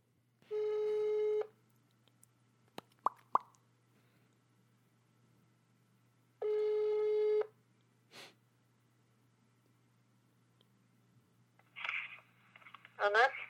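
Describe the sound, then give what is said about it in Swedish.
A telephone ringback tone from a call to Stockholm sounds twice with a long pause between, a steady harmonic buzz, followed by small clicks and a brief bit of speech at the end. “Och okej, okay, då ringer ….”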